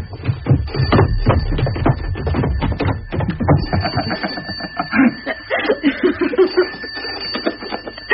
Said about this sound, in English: A phone? Ignore it. Oh, it could be important. It's not for us. No one knows we're here. Well, I'm going to answer it.